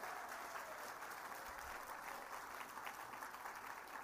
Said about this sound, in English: If you're not nominated, let's give the nominees a round of applause. Come on. Let's wish them well.